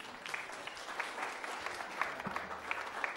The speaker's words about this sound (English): Give them all a clap.